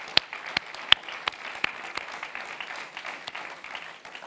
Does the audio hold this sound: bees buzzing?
no